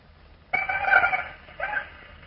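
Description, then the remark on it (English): Two single male Anopheles mosquitoes answer a recording of a female's call with a high, wavering whine of layered tones: one longer burst of about a second, then a short second burst, with no talking. “Now you will hear the response of two single male Anopheles to a recording of a female call.”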